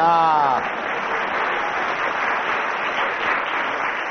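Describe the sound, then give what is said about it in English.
A crowd breaks into steady, dense applause that carries on for several seconds at an even loudness, with a voice trailing off briefly at the very start. “And also another round of applause for Samantha”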